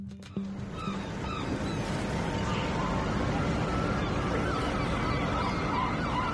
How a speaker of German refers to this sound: Im kleinen Hafen von Lampedusa heben und senken sich die angelegten Boote friedlich im Rhythmus der Wellen.